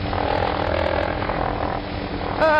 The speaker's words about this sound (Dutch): Hey, stil eens. Ja? Ik hoor wat. Wat? En daar in de verte zie ik iets vliegen. Wat? Een helikopter.